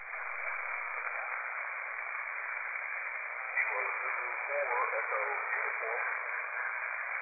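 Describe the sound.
A weak amateur radio signal from a station in Virginia on the U.S. Coast Guard Amateur Radio Net, buried in steady hiss and static, with a faint, garbled voice barely rising above the band-limited noise partway through.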